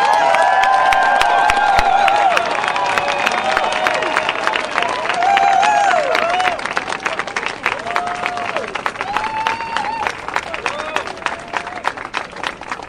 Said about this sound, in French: Et nous voici plusieurs centaines de personnes venues pour rendre possible l'installation du centre social autogéré. Et on pense que ça mérite une grande main d'applaudissements pour tout le monde ici.